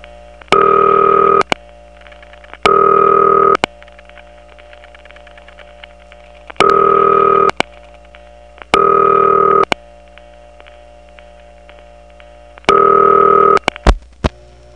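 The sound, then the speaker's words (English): A telephone rings in steady bursts of about a second, five rings in a repeating cadence, on a Toco Hills line, while a faint dial tone and reorder signal from the line's power supply hum continuously underneath in the gaps between ring bursts. “Now that it's ringing, you can hear one thing that is distinctive about Toco Hills, and that is that in between ring bursts, the power supply that's on the line isn't silent at all. It actually has dial tone and reorder in the background.”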